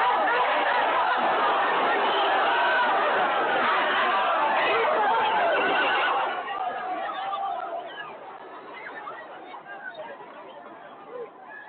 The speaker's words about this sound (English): There was quite a battle there that day. They're throwing tear gas into the crowd right here.